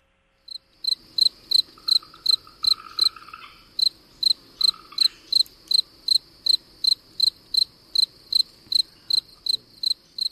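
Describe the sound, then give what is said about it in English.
A spring field cricket (Gryllus velitus) chirps in a steady, even rhythm, roughly two shrill pulses per second, loud, each chirp made by a shuffle of its raised wings, with a faint background of other insects and no talking. “Spring Field Cricket, Gryllus velitus.”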